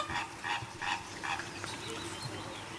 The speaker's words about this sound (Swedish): Är det flamingos? Bra gissningar. Yes, där har vi den. Flamingos! Det är flamingos, det är rätt.